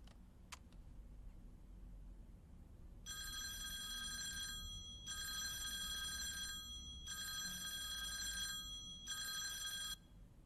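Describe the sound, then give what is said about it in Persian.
A telephone rings in four steady bursts with short pauses between them and no one picks up. The ringing is clear and bright over a quiet low hum, with no voices. “کسی تلفن رو جواب نمیده.”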